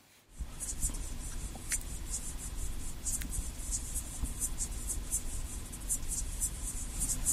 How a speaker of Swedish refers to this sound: Men trots det går det att höra även ovan vatten. Vi har hittat ett ljud också av en art som finns i Sverige som heter Micronecta poweri, tror jag. Vi lyssnar på det också.